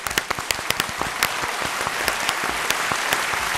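A burst of applause from a small group, dense overlapping claps at a steady, lively pace for a few seconds, fairly close and without any talking.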